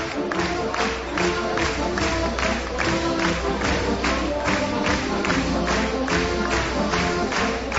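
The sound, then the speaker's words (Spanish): A crowd claps in steady unison along to loud band music as people dance with their enanos, the sharp rhythmic claps falling about twice a second throughout, with no pause or change in tempo. “Bueno, está todo el mundo ya acompañando con las palmas, y esto se viene abajo.”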